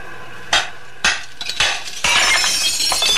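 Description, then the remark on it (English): A rock is struck against a factory window: a few sharp strikes crack against the glass, each a bright, hard impact, followed by a loud shattering burst and a lingering tinkle of falling shards, leaving a hole in the window. “You going to crawl through that hole in the window?”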